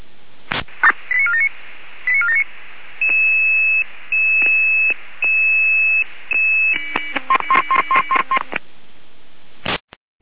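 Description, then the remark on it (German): Radio dispatch alerting tones from the Jena control centre, sent as a double alert: a run of sustained electronic beeps in steady pulses, followed by a quicker series of short stepped tones, loud and clear with no talking, ending in a brief click of static. “Zweimal Alarmierung.”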